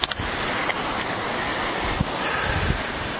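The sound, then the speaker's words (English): Steady outdoor wind blows loudly and continuously by a river at a footbridge in San Lorenzo Park near Water Street, a broad rushing roar with occasional gusty thumps buffeting the microphone, with no voices present. “Most of the tents are still up, haven't been blown away by the wind.”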